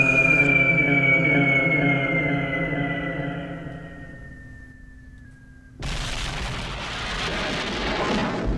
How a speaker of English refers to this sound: Giant explosion takes out the entire city.